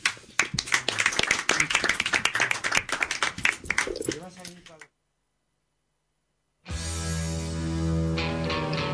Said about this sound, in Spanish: Gracias, un aplauso.